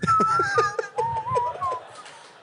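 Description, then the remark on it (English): A person whistles a short, wavering tune of several sliding notes, close and fairly clear, with low murmuring voices or chuckles underneath. “I just got a sawed off like Omar just whistling by the stage, like, don't play any of that new shit.”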